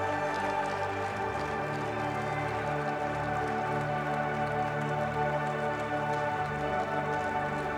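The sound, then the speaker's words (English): An audience at a morning church worship service claps steadily, a thick, continuous patter of many hands that holds an even loudness throughout, with sustained musical tones humming underneath. “Come on, keep on clapping, there's more, come on.”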